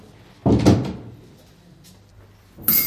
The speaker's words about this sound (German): Ja, machst aber die Türe zu. Ne? Ja, sicher, kein Problem.